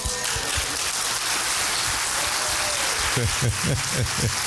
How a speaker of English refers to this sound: Glory follows gratitude. Watch this. Glory will follow your hand clap. Come on.